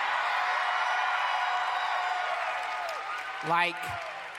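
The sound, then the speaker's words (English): A live audience cheers and whoops in a dense, sustained roar of many voices that fades slightly before a single louder shout rises near the end. “You shouldn't cheer yet. You should wait for the end.”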